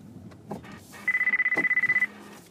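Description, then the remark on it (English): A phone rings with an incoming call, a rapid warbling electronic trill, a steady high tone pulsing quickly for about a second, loud over a low background hum. “Let me get out of this driveway here before I take this call.”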